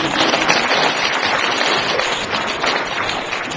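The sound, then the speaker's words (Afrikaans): An audience applauds steadily, many hands clapping in a dense, crackling wash that holds an even loudness for the whole stretch, with no voices standing out. “OK, dankie, julle kan almal sit, klap vir hulle hande.”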